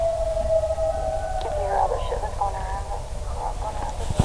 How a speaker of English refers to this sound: Yeah, we hear it. That's a coyote there, though. It's close.